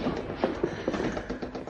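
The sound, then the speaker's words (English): Swing doors being pushed open, giving a few soft knocks and dull thuds in an uneven rhythm, fairly quiet, with no one talking. “Nearly at the doors now. All I've got to do is to get outside. That'll complete the dare. Then I can go back. Swing doors.”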